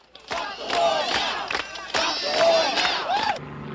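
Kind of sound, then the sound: crowd, protest crowd chanting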